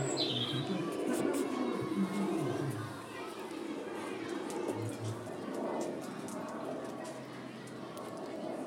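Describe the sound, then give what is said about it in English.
A songbird sings in short, bright chirps, rising over a steady bed of loud outdoor background noise with indistinct murmuring voices. “That lovely bird singing, listen, in the middle of all this.”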